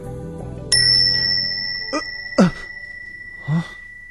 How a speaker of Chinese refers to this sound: 听到一下铃声，你就可以翻嚟现实啦。